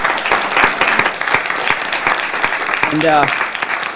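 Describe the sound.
Steady applause from an audience, dense clapping that fills the whole stretch at a fairly loud, even level, with a brief voice cutting through near the end.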